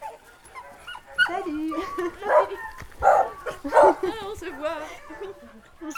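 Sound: dogs barking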